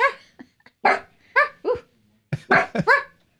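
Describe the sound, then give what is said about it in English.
A dog, Marshmallow, barks repeatedly at someone outside, a run of sharp, yappy barks in uneven bursts, with a couple of quick doubled barks near the end and short gaps between. “What's making her bark?”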